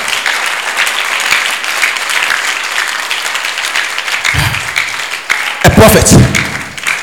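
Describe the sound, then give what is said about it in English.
A crowd claps for Jesus in steady, dense, sustained applause for several seconds, with loud whoops and voices rising over the clapping near the end. “Clap for Jesus.”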